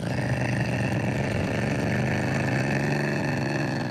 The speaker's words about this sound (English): Oh, the sweet growl of Izzy the ocelot from our zoo here right in Boston.